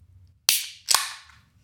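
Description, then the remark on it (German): A bottle of Kastellager beer being opened to check its pressure: two sharp, bright pops about half a second apart, each trailing off into a brief, faint hiss, over a low background hum with no talking. “Also ich mache jetzt dieses Kastellager auf. Dann können wir mal schauen, wie der Druck da...”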